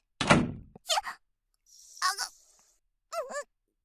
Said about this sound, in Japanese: あの人扉を強く閉めすぎ、びっくりして漏らしちゃうところだったよ。